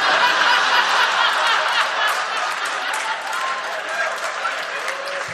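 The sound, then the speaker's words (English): A crowd claps steadily for several seconds, a dense, even wash of applause with some scattered laughter mixed in, loud throughout and fading only slightly toward the end. “I'm always thrown off by the clapping.”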